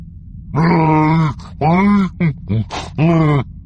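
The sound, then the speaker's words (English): Chewbacca the Wookiee answers with a loud creature howl, a complex string of about five growling, groaning bursts with rising and falling pitch, vocalized alone with no talking. “Chewbacca looked up, answering with a complex howl.”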